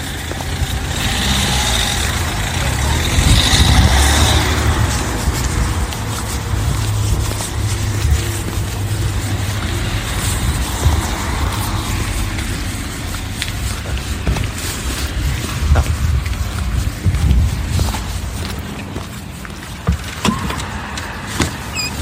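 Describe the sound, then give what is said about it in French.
A car engine runs with a steady low rumble that continues throughout, joined now and then by brief clicks and mechanical rattles, with no voices. “Attends, il y a une voiture là-bas.”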